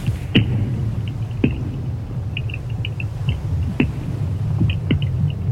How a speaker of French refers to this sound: Les voilà donc ces sons que vous avez enregistrés avec ces géophones. On a vraiment l'impression de pulsation. Ça donne presque un aspect vivant tout d'un coup à ce bloc de glace. Ouais, et c'est en permanence. Et nous, on les entend pas.